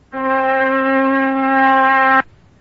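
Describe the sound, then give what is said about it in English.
A steady oscillator tone at about 256 cycles per second, a low-middle hum with a bright, buzzy edge, held evenly for about two seconds before cutting off abruptly. “Now let us assume that I could spin this iron bar 256 times per second.”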